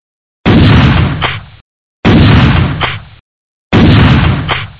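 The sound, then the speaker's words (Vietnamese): Three loud, sharp rifle shots, fired as a signal that the road is clear, ring out at evenly spaced intervals, each cracking hard and then trailing off in a short echoing decay, with silence between them. “Ba tiếng súng trường nổ rất đanh, báo hiệu đường đã thông.”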